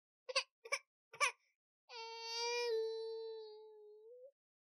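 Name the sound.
baby crying loudly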